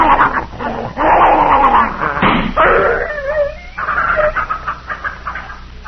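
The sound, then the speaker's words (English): A poisoned dog named Tiger whimpers and yelps in pain, with high, wavering cries and sharp whines rising and falling over several seconds, no talking. “but he was in such pain he'd have bitten both of us.”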